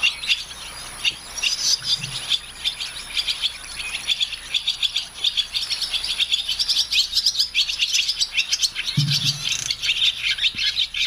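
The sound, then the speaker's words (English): Barn swallows chatter continuously in a busy, overlapping stream of high, rapid twittering notes, with two or three birds calling at once throughout, with a couple of faint low thumps. “The species we're profiling tonight is the barn swallow, B-A-R-N. And let's begin by listening to their chattering calls.”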